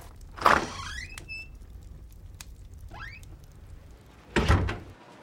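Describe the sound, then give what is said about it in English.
A front door clunks and creaks open with a rising hinge squeal as two people exit, then a few seconds later swings shut with a solid thud. No one speaks. “Bull and Grayson exit through the front door.”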